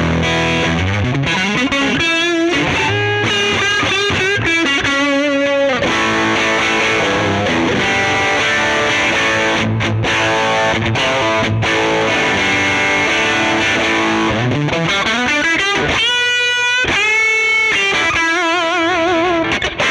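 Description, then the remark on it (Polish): Heavily distorted electric guitar through an amp pushed to maximum gain, a very screechy, somewhat Marshall-style sound, thick, fizzy and saturated, playing loud continuous riffs and chords with sustained buzzing overtones and no voices. “I maksymalny przester, jaki da się uzyskać z tego wzmacniacza.”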